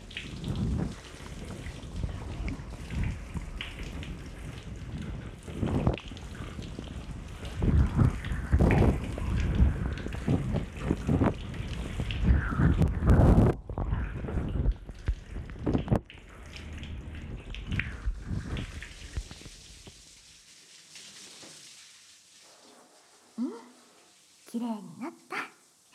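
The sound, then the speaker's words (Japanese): A shower sprays steadily as shampoo is rinsed from hair and around the ears, a loud continuous hiss of running water for about twenty seconds. It then shuts off, leaving quiet with a few faint vocal sounds. “シャワーで流すから目は閉じていようね。”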